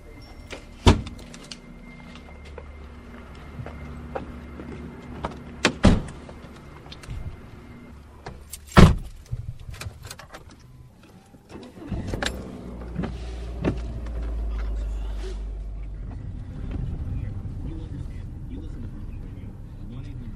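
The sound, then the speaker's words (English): Inside a car as a husband and daughter drive a woman to the bus stop on a gray, drizzly morning: sharp clicks and thumps from doors and a power window come first, then a steady low engine rumble settles in as the vehicle moves off. “so this morning we're going to experiment and see what my experience is like riding the bus in, and he and my daughter are going to drop me off at the bus stop in the next couple of minutes.”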